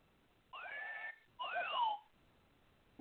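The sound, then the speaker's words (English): Two short sliding whistles, one after another with a brief pause between, fairly clear. The second one bends more in pitch, and nobody is talking. “No, that's the whistle.”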